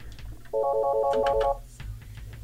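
A telephone rings with an incoming call to a college radio station's phone line: a rapid, warbling electronic trill lasting about a second, fairly loud, over a low background hum with no voices.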